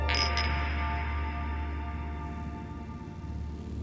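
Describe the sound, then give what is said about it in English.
Glasses clink together as senators raise them in a toast, a quick bright double chime at the start that leaves a sustained, shimmering ring slowly fading over several seconds. No one speaks. “The senators raise their glasses and cheers”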